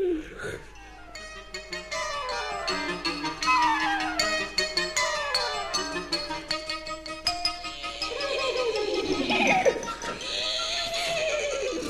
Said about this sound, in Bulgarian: Бабо, откъде се чуват коне?